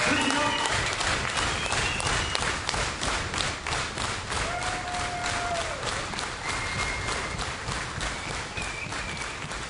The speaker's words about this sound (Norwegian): Publikum var med, og da revyens Grand Old Man sa han hadde rest rundt med revy i over 50 år, reste publikum seg i salen til spontan applaus.